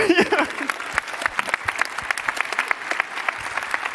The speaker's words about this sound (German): Auf Platz 4, die Stufe unterm Treppchen, haben wir mit 13,6 Punkten und einen kräftigen Applaus hat das verdient